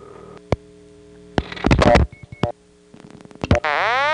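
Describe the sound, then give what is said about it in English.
A telephone intercept tone on a line in Worcester: sharp clicks and crackly bursts of switching noise, two brief high beeps, then a loud sustained tone with sliding, warbling harmonics. No one speaks. “Well, I think we've heard enough intercept tones for one day.”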